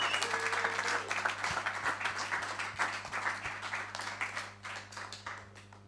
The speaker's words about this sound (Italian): alla chitarra Sergio Benone, un grande applauso.